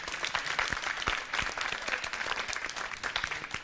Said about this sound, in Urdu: بھائی جان پڑھ لیتے ہیں، ان کی بھی حوصلہ افزائی ہونی چاہیے زوردار تالیوں کے ذریعے.